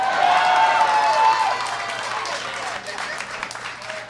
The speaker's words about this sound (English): I saw people who said boo now clapping.